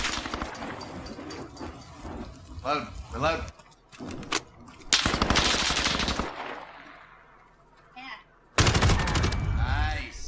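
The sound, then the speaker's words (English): Video game sawed-off shotgun gunfire in a 1v1 match, fired by a 5-year-old player: loud, sharp blasts in irregular bursts, with heavier sustained volleys near the middle and end, mixed with game noise and brief voices. “You got shit on by a 5-year-old with a sawed-off shotgun, dude.”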